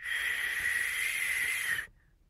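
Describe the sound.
A single long, steady whistle held at one high pitch for almost two seconds, then cut off abruptly, with no voices.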